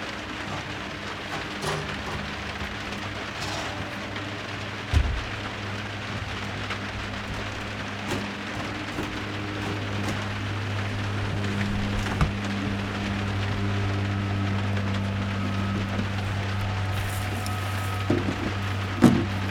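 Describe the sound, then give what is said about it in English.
Heavy rain pours down in a dense, steady hiss, with a low droning hum underneath and a couple of sharp knocks, one around the middle and one near the end. No one speaks. “Yeah, it just came down.”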